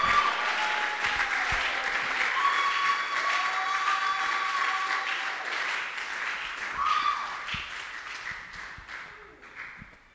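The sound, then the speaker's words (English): A large audience claps steadily and cheers, a dense wash of applause with scattered shouts and whoops rising through it, fading slightly toward the end. “Oh, I thought you would shout louder and clap bigger than you are doing.”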